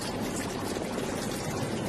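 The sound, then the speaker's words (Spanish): A steady, continuous rush of water, like a waterfall, forms a dense, even roar that holds at the same moderate level throughout, with no voices. “Bueno, escuchamos, porque aquí se oye el tráfico y de fondo el rumor del agua.”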